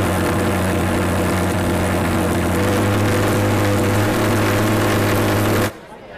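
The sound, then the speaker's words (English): A Golden Eagle mosquito fogger runs with a loud, steady, droning engine roar, a low buzzing hum beneath a broad hiss, then cuts off abruptly just before the end. “You might be wondering at this point whether you should pause this episode to visit YouTube to find the sound of the Golden Eagle mosquito fogger, right?”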